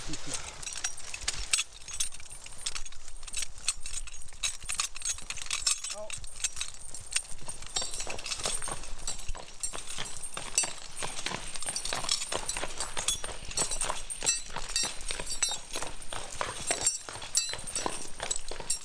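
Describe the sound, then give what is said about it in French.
A horse's hooves clip-clop steadily, with metallic tack jangling and clinking throughout, a dense stream of sharp clicks at fairly even loudness. “Là, c'est la pause casse-dalle pour le cheval.”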